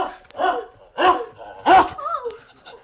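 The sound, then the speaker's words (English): A ferocious dog barks loudly and aggressively, about four sharp barks spaced roughly half a second apart, followed by a brief whining growl. “Ferocious dog.”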